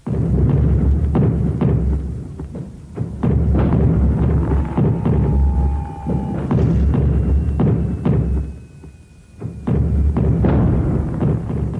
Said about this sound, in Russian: Шла стрельба. Над крепостью поднимался дым.